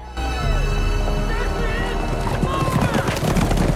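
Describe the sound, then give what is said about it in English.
Rapid, rhythmic hoofbeats of horses galloping with men on horseback, steady, mixed into a busy backdrop of loud music with sustained tones, building in intensity toward the end. “The men are on horseback.”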